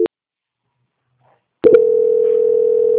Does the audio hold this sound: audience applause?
no